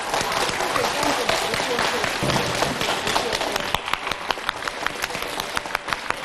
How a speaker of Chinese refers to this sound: 让我们用最热烈的掌声，恭请我们尊敬的卢军宏台长。